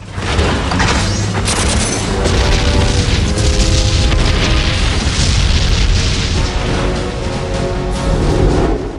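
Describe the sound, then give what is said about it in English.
Bombs dropped from Mitchell's low-flying plane explode on a factory and destroy it, in a loud, continuous barrage of deep booms and crashing rumble, with a steady droning tone running underneath and no speech. “Mitchell's plane races low past gun emplacements and drops bombs which destroy a factory.”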